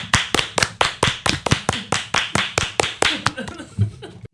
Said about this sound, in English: Everybody clap your hand.